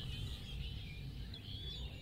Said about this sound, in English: Lovely birds. Lovely birds. Yep, we got birds in the studio. You know, we're outside right now. It's a beautiful day.